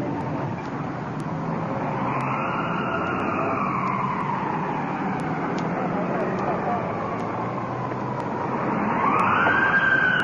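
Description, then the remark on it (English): An ambulance siren wails in long rising and falling sweeps, loud and steady throughout, swelling louder toward the end as it arrives at the scene of a car crash, over a low rumble of engine noise. “Radio car. Ambulance here first.”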